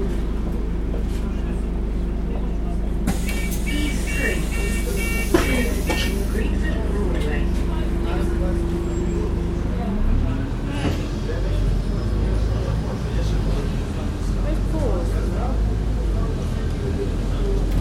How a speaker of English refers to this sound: Well, that's our bus going off into the distance